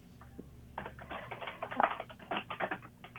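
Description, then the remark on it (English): Rapid typing on a computer keyboard to look up an article, a quick flurry of clicky keystrokes with uneven rhythm and no voices, starting after a brief quiet moment. “And I'm typing in very quickly to see, here it is, seven faces of philanthropy.”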